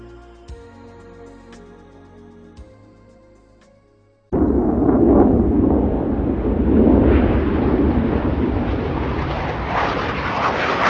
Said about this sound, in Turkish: Uçaklar. Gelişen ulaşım teknolojisinin sağladığı kolaylıklardan biri. Günümüzün teknolojisiyle hızlı gitmek artık oldukça kolay. Zor olansa hızlı ama aynı zamanda da sessiz gidebilmek.